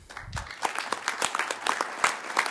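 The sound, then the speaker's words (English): Applause from a group at a Detroit news conference held immediately after the city's plan to exit bankruptcy was approved: dense, overlapping hand claps in a steady patter, rising after a brief muffled thump at the start and holding at moderate loudness with no voices. “So few would have believed a news conference immediately after the plan to exit bankruptcy was approved would begin with applause.”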